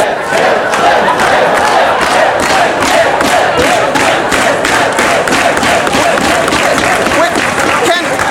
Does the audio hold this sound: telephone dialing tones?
no